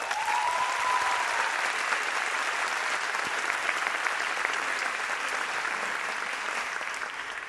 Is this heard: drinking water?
no